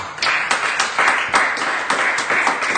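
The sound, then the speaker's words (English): A crowd gives a hand clap of praise to God, a dense, steady wash of applause with rhythmic accents roughly every half second, loud, no voices over it. “Can you give Him a hand clap of praise?”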